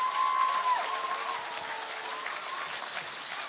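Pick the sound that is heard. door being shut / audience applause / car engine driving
audience applause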